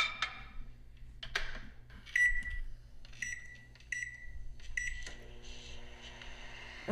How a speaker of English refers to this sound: Okay, just put it in the microwave.